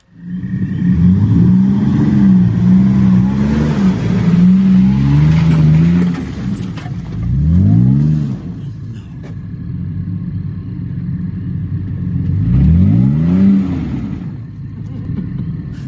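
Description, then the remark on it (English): A truck engine strains loudly, holding a steady high rev for several seconds, then surges twice more in rising and falling bursts of revving as the truck is driven up off-road and gets stuck. “So I decide to pull my truck up, because what could go wrong, right?”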